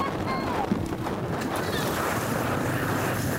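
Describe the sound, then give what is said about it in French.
A boat pushes steadily across open water, its engine drone mixed with rushing wind buffeting the microphone and the constant wash of water, loud throughout. “En attendant, notre traversée se frotte au vent et à l'eau.”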